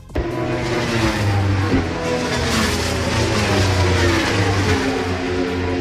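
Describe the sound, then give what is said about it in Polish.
Racing motorcycle engines roar and rev continuously, pitch rising and falling as several machines accelerate together, loud and steady throughout with no talking, at the first round of the Polish motorcycle road racing championship at the Tor Poznań circuit in Poland. “Ten dźwięk oznacza, że rozpoczęły się Mistrzostwa Polski motocyklowe.”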